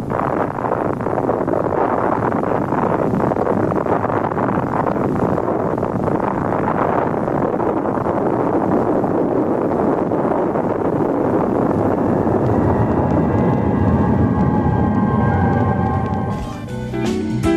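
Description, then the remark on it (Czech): An authentic recording of an atomic bomb explosion: a loud, continuous low roar and rumble that churns steadily for over fifteen seconds, then thins out abruptly at the end. No voices are heard. “Ovo je autentičan snimak eksplozije atomske bombe.”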